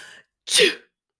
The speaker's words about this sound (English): So I have a sore throat. I'm coughing. Sniffing. And sneezing sometimes.